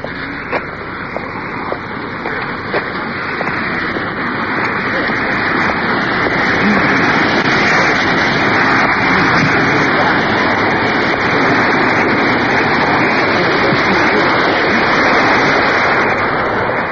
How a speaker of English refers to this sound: So we're crossing over on the left. There's a waterfall. Probably can hear the water pouring over the top.